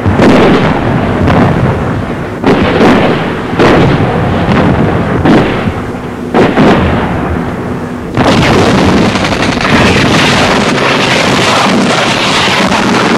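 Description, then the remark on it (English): Heavy artillery shelling a landing zone miles ahead of a first helicopter assault wave: booming blasts land one after another over a constant rumbling roar, growing denser and more continuous in the second half, with no voices. “Miles forward, our artillery pounds the landing zone.”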